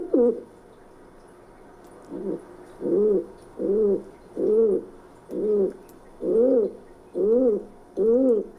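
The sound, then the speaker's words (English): A pigeon coos repeatedly in a steady rhythm, about eight low, throaty calls, each a short rounded burst with brief pauses between, against a quiet background. “It's a pigeon.”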